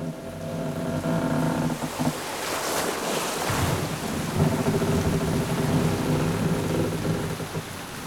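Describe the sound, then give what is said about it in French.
A storm that wrecks a ship in the Port-aux-Français shipwreck rages with steady, loud rain and rumbling thunder, a sharper crash around the middle, over a low droning hum and crashing water; no one speaks. “Il y a eu une tempête qui a saccagé le bateau.”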